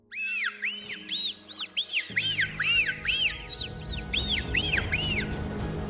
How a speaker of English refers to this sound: They are highly communicative beings, using a variety of sounds, gestures, and jumps to interact with each other. Whistles are the most recognized sound produced by dolphins.